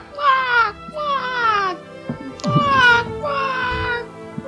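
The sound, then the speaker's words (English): A person imitates the seagull cries heard on BBC Radio 4's Desert Island Discs with their voice: four loud, high, wailing calls, each about a second long and sliding downward in pitch, separated by short pauses over low background rumble. “My seagull's noise.”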